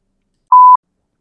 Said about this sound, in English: Podcast folks, there's going to be a beep.